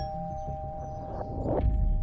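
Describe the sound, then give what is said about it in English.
A house doorbell rings with a ding-dong chime whose tones hang on steadily, heard at moderate volume over low rumbling background noise. “He parks and walks over to the house, rings the doorbell.”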